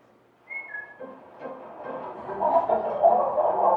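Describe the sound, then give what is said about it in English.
Several backyard chickens cluck and murmur together, a busy overlapping chatter that grows louder and denser, opened by a brief high whistling note. “Over time, they raise chickens in their backyard, feeding them kitchen scraps.”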